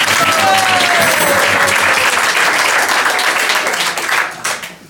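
A crowd applauds loudly and steadily, many hands clapping in a dense wash of sound that carries on for several seconds before tapering off at the end.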